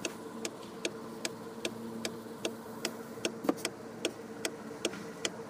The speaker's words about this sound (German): Und da kann man eigentlich sagen, dass alles quasi, was man an Warngeräuschen kennt aus dem Auto, dass das alles quasi auch designt ist. Das Ticken eines Blinkers. Jeder kennt es.